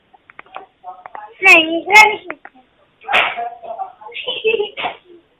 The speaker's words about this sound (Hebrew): אני רק יודע שזה מפריע. כנראה שבבית, איפה שיש את הטלפון, שומעים קולות של ילדים, אז צריך לעשות השטק.